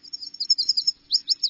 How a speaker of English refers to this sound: The sweet slurred song of the yellow warbler